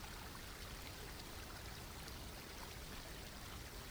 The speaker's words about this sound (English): See if you can sense the origin of this water, bubbling up from the holy spring upstream from where you stand.